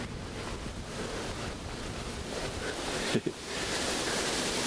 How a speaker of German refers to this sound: Ist übrigens windig für den Fall, dass es nicht auffällt. Also ich meine, okay, Aufnahmegerät hält sich ganz gut.